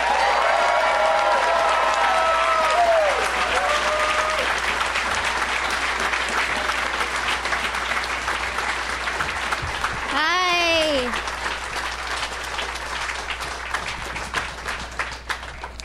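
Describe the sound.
An audience welcoming three guests onto a show breaks into sustained, dense applause that holds steady for the whole stretch, with a few whoops and cheering voices rising briefly through the clapping.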